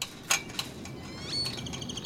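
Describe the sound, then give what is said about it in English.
African painted dogs at the Phoenix Zoo chirping as a carnivore keeper feeds them in the morning: a quiet flurry of high, bird-like twitters and squeaks, a few sharper calls and a rising whistle, over a soft steady background hiss with no talking. “I am a carnivore keeper one at the Phoenix Zoo, and I'm out here feeding our African painted dogs this morning.”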